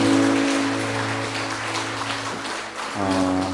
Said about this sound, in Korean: 우리 선교사님 위해서 한번 박수하겠습니다.